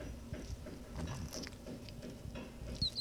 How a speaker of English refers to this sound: There's another that one. That was a good squeak. A lot of variation in there.